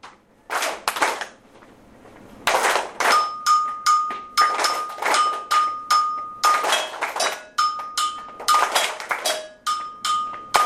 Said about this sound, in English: Now, some people are clapping too fast. You have to make sure we are all on the same page.